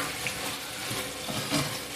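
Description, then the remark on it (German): Meat for chili con carne sizzling in a frying pan: a steady, dense crackling hiss, with brief louder pops and a faint scrape partway through. No one speaks. “Fleisch brutzelt. Ich hoffe, das ist nicht zu laut hier.”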